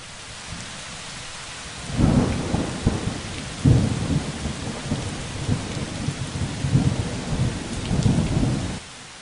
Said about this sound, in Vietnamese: Chúng tôi đi ngang qua sông Coquille dưới cơn mưa bão nặng nề.